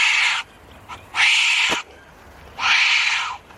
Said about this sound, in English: A wombat, of course. Well, hopefully one a bit calmer than that one.